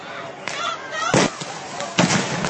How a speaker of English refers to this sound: They are firing rubber bullets.